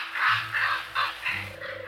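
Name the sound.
raven croaking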